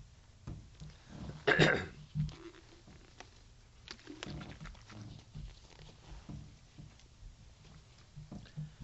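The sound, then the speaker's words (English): A man coughs sharply, then takes a drink, with soft swallowing and throat-clearing noises trailing off. “I used to preach 4 hours without taking a drink or coughing.”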